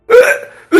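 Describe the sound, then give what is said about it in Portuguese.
A voice imitates gagging and forcing back vomit, acting as if on all fours and swallowing vomit: a long, strained throaty retch that fades out, followed by a second abrupt, loud gulping heave. “Eu fico de quatro assim, fazendo que vou engolir um vômito.”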